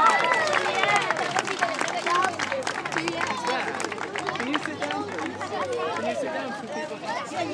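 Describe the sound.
An audience applauds with a steady patter of many hands clapping, mixed with lively crowd chatter and overlapping voices, holding at an even level from start to finish.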